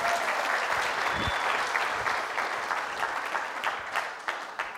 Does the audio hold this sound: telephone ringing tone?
no